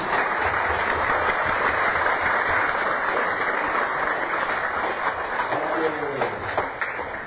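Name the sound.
audience clapping hands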